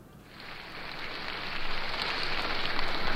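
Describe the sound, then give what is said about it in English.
A large audience applauding Eddie Cantor at Carnegie Hall: a dense, crackling wash of clapping that swells after the first moments and holds steady and loud, with no voices over it. “You are applauding the wrong cantor.”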